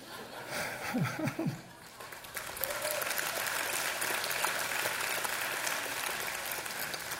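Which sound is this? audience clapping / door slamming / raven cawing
audience clapping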